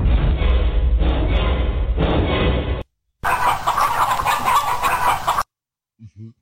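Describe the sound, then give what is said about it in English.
Chickens cluck and squawk loudly in agitation after a few seconds of heavy rustling and thumping; the flurry breaks off abruptly, followed by a brief low sound. “Chickens get pissed, guys.”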